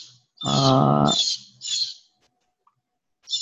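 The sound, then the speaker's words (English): A harsh, raspy blue jay call: one loud, grating scream followed by a couple of shorter, shrill squawks, with a brief quiet gap before another begins. “Who's got the angry bird?”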